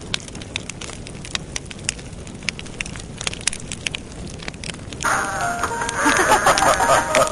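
A bonfire crackles steadily, with sharp irregular pops and snaps over a soft low rumble. Partway through, the sound swells into a louder, denser roar of burning.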